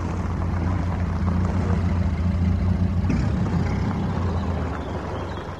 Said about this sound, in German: Nanu, was ist denn das für ein buntes altes Auto, das da auf den Hof fährt? Habe ich ja noch nie gesehen. Ah, Zirkus Rondelli, steht ja groß drauf.